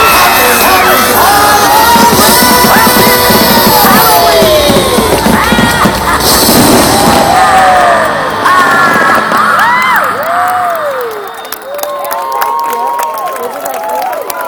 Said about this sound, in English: Everybody scream! Everybody scream!